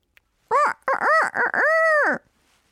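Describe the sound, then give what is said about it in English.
A rooster crows loudly, a single cock-a-doodle-doo of three quick rising notes ending in one long drawn-out call, then silence. “Happy Year of the Rooster!”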